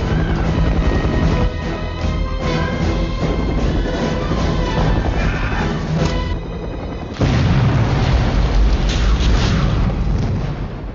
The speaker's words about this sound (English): And they did it in a much more dramatic fashion involving the blowing up that FBI helicopter.